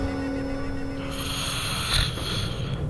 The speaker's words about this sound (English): Silly girl. I told her she snored. Yet, it's quietly comforting.